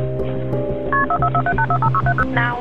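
Telephone keypad dialing 911 to call for paramedics: a quick, steady run of about a dozen short touch-tone beeps, each a bright two-note chirp, sounding over a low, constant hum with no one talking.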